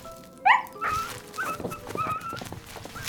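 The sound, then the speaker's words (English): A sharp canine yelp rings out, followed by a run of high, whining whimpers and short barks from several wolves or dogs, moderately loud, with no talking. “Just as the wolves were poised to attack...”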